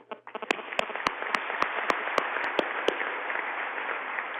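A crowd bursts into steady applause, a dense wash of clapping with a few sharp, louder claps standing out near the start, sustained at an even level throughout.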